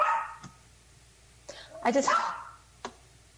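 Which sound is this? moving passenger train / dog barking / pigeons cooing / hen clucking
dog barking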